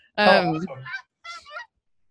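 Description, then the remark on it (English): Geese honk in two bursts: a loud, harsh, nasal cluster of calls up front, then a shorter, fainter round of honks after a brief pause, with no voices. “Can you hear the geese?”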